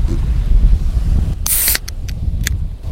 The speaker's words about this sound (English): So what does it say about the summer ale? It says it's a refreshing golden ale brewed to be quaffed in the summer sun. Well, summer sun, check. So let's crank open this can.